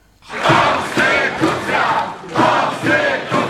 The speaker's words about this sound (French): Hier matin, elle s'est rendue à son bureau comme si de rien n'était et elle a été accueillie par des acclamations des milliers de manifestants.